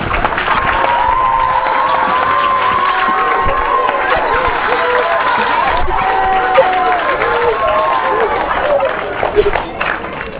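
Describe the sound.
Sustained applause mixed with loud cheering and whooping from a large crowd of students welcoming a chairman at a school, a steady wash of clapping and high shouting voices that carries on for the full stretch before easing slightly at the end.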